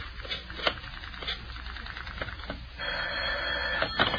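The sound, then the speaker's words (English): A string of quick mechanical clicks, like a rotary phone being dialed, is followed by a steady electric ring from the telephone. It sounds moderately loud on a thin, old-sounding recording, with no voices. “I'd better get Dinah on the phone and tell her the good news.”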